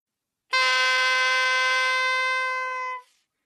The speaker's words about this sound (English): Robin put on Sir Guy's cloak and picked up Sir Guy's horn. He blew it. Back on the riverbank, the sheriff said, "I can hear Sir Guy's horn. I will blow mine to tell him where we are."